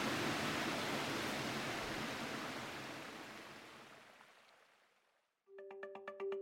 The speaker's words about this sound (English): Thank you so much to Andres Ruzzo for taking the time to talk to us and for sharing that incredible audio of the Boiling River.